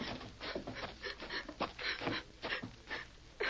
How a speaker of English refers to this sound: Looks like a little kid sitting over there on that table rock. What would a kid be doing way out here? He's crying.